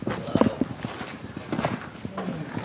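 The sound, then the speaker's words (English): Horse hooves clop unevenly on a hard floor in a barn at a slow walking pace, with a few louder strikes among softer shuffling steps and faint background noise. “into the barn where they feed and brush the horses and clean their stalls.”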